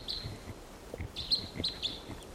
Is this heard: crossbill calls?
yes